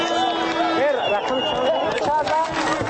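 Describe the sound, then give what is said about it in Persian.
A dense, steady roar of football fans cheering and shouting after Tajikistan's first goal in the 46th minute, with wavering voices rising and falling throughout the loud, unbroken crowd noise. “هنوز داد و فریاد مخلصان از گل نخست تمام نشده، نومان جان حکیموف در دقیقه 47 حساب را 2-0 نمود.”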